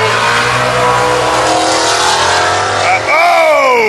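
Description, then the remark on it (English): Loud engines roar and rev hard as cars drag race on the street on Woodward Avenue, with a sharp rising pitch sweep near the end as a car accelerates away. A voice is faintly present underneath. “We're watching cars get squirrely here on Woodward Avenue, drag racing on the street as we do this.”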